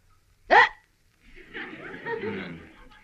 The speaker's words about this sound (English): I've got the hiccups.